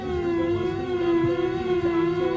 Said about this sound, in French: On peut rajouter des sirènes.